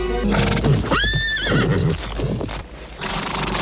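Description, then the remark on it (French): A horse, Pegasus the winged horse, gives a loud whinny with a rising, wavering pitch, while hooves clip-clop steadily beneath it and continue on after the call fades. “Quand la pleine lune brille sur les eaux, on dit que Pégase, le dernier des chevaux ailés, vient s'y désaltérer.”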